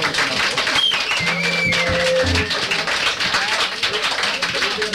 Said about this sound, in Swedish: Anders skruvar tappert bakom trummen här. Kan man få en applåd till den skruvande Anders?